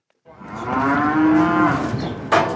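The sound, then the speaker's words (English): A single long, loud, harmonic moo lasting about two seconds from beef cattle being herded across the border from Mexico to the U.S. at a large international livestock crossing, with a faint rustle at the end; no one speaks. “At the largest international livestock crossing in the hemisphere, cowboys herd hundreds of head of beef cattle a day across the border from Mexico to the U.S.”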